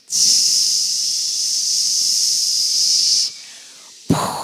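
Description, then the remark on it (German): A group of people with hands raised makes a loud, sustained hissing noise together for a few seconds, imitating a rocket launch as part of a prayer, which cuts off abruptly before a brief burst of noise at the end. “Und jetzt wollen wir zusammen die Rakete zu Gott auflassen. Für das müssen wir irgendwie so ein zischendes Geräusch machen und alle Hände auf.”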